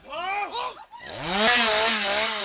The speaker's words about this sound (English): Like when we were being chased by a crazed man wielding a chainsaw, that feel very real.